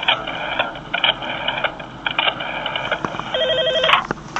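An old telephone bell rings in several rapid, jangling bursts separated by short pauses, loud, with a final higher electronic-sounding trill before it stops. No one speaks.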